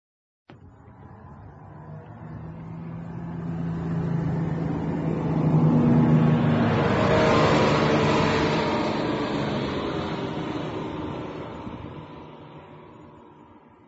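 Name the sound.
bus engine driving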